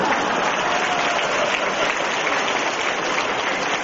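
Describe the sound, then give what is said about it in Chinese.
An audience applauds steadily for about four seconds, a dense, even wash of many hands clapping at a constant loudness, with no voices over it. “你们知道为什么现在鼓掌人不多啊？”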